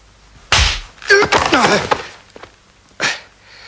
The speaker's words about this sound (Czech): Vy u vás neboxujete? My se prosím fackujeme.